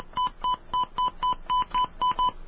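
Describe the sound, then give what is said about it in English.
A rapid series of about nine touch-tone dialing beeps as a phone call to Seattle is dialed, evenly spaced short tones pressed one after another, clear with a faint line hiss between them and no talking. “I dial 9 first, right?”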